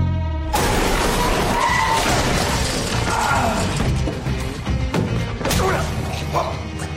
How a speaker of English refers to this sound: And just when the two think they're done for, Kevin comes crashing through the wall in the car in this clip.